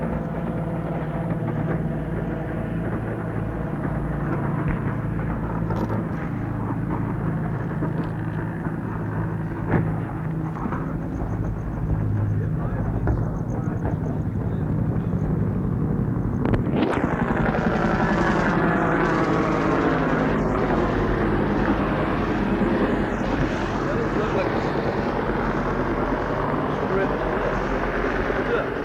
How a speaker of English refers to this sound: Well, I bet that LOH or that airplane they was talking about.